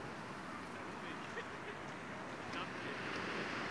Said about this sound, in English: It's a little bit windy here at the beach.